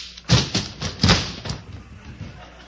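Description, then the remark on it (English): A scuffle of punches knocking a man out: five or six heavy, dull thuds land in an uneven burst, the loudest early on, then weaker blows trail off into low rustling. No one speaks. “You knocked him out.”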